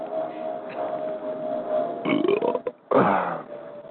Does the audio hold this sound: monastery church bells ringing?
no